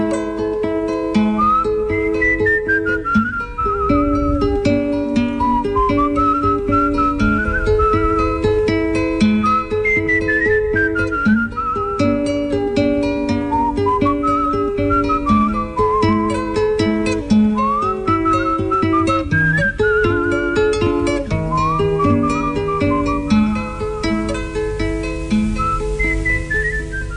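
A person whistles a slow, wandering milonga melody, clear, gliding between notes over steady strummed accompaniment on an out-of-tune guitar for the whole stretch, with no talking.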